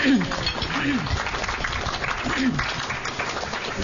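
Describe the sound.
A steady round of applause from an audience, dense and continuous clapping at an even level throughout, with a few voices briefly audible over it.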